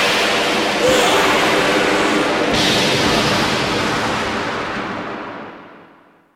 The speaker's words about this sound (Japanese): 魔法皇帝の名のもとに皇帝自らが命じる。天界の雷よ、すべてを滅ぼせ。